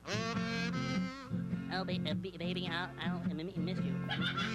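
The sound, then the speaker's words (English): A buzzy, nasal kazoo plays a wavering tune as the big finish from Porky Pig, its sustained notes sliding and bending continuously for several seconds without pause. “Play that kazoo.”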